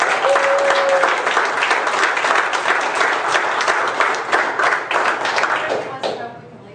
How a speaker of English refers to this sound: Give this one applause.